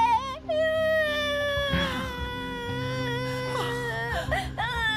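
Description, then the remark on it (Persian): A child cries loudly and continuously, a high wailing sob with sustained tearful tones that waver and catch, filling the whole stretch with no pause. “لطفاً گریه نکن.”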